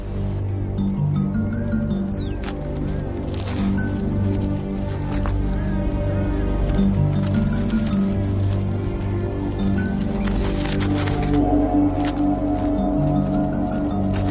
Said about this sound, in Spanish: Ruidos de las hormigas arrastrando los insectos.